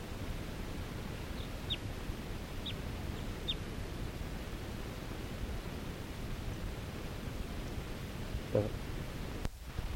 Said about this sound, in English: A wild bird again. And I'm gonna try to get a shot at it. This is the same bird that was tooping before.